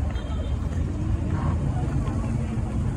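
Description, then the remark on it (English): A cable car rumbles past, a steady low mechanical drone that fills the whole moment, with faint murmuring voices in the background. “Baby, cable car. Cable car.”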